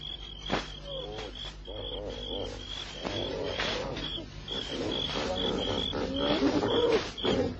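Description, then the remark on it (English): Elephants feeding at night, with low rumbling groans and occasional rustling bursts, set against a steady, shrill chorus of crickets throughout. No one speaks. “Elephants. Nighttime feeding.”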